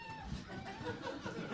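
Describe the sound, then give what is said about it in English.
A toy monkey yells in a shrill, warbling electronic squeal that carries on continuously for a moment, with a faint murmur of people in the background. “The Woot Monkey's yelling.”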